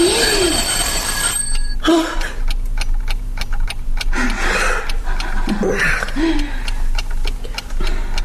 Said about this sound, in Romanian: Așa repede a sunat ceasul.